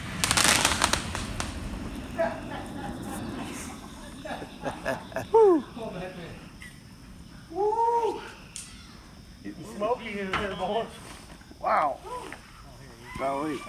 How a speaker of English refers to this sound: We're getting showered with the debris from the fireworks hitting us and the barn. You can hear them hitting the top of the barns like rain.